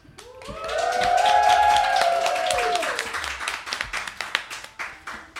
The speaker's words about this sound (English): Thank you for that applause, studio audience.